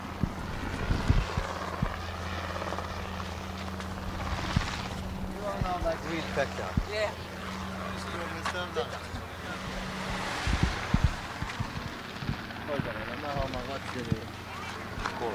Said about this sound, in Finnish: Toi on meidän kopteri.